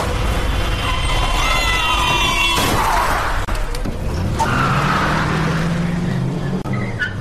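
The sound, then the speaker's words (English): A car's tires screech in a long, loud skid, then a sudden crashing impact cuts through, followed by engine noise rumbling on. No one speaks. “It was like slow motion, watching the car approach.”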